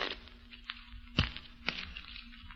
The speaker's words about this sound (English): I wonder if he's going to let us shuffle those cards.